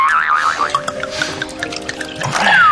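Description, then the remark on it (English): Red wine pours from a bottle in a steady stream, with bubbly glugs and rising gurgling tones throughout, ending in a brighter trickle. No one speaks. “They've got my wine sound effects on EastEnders.”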